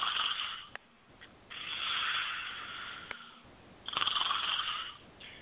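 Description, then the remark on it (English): A voice imitates snoring: three loud, drawn-out rasping snores with short quiet gaps between them, and no other talking. “I think it would have been a little bit of a snore fest.”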